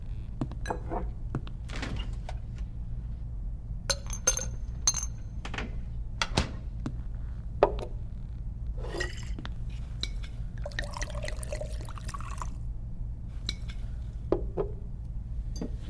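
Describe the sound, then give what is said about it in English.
Glass clinks sharply several times while liquid is poured and trickles into a cup, over a steady low background hum; fairly quiet, with no one speaking. “How about we start with a glass of whatever that is?”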